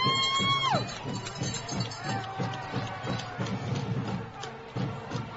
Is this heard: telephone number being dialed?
no